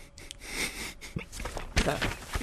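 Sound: sniffing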